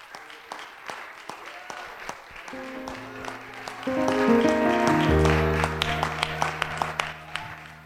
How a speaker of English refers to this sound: Hallelujah. Can we give God a hand clap of praise for He is here?